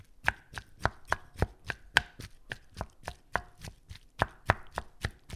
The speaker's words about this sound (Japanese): 煮上がったらザルにとって、水気を切ったらボウルに入れてバターを加えてよく潰しておきましょう。